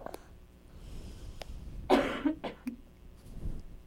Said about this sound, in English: You think it's funny when people cough? You think that's funny?